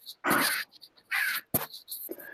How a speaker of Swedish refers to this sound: Skriker fåglarna fortfarande i bakgrunden? Ja, lite grann gör de. Ja, det är en trevlig kuliss.